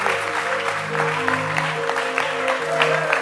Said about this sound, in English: Clap your hands for this man.